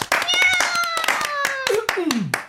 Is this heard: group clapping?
yes